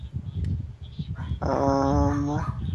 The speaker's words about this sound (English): Dear God, the dog is not helping my train of thought. Like, every time I start thinking, I just hear this little. It's such a puppy bark. Well, he's a tiny dog.